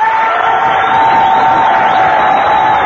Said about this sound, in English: Thanks for the nice applause, fellas.